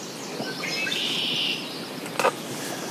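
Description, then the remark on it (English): Red-winged blackbirds moving in riverside grass give a single buzzy, trilling call against a soft outdoor hiss, followed a moment later by a brief sharp rustle. “As the sun climbs, red-winged blackbirds move in the grass so close they can perch on the edge of our paddles.”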